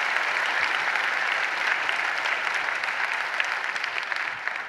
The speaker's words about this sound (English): But today, would you use applause as a way of saying Merry Christmas to all those on the different campuses? Because we are one church in a variety of locations. So just say Merry Christmas by applause to all of our church family that's joining us.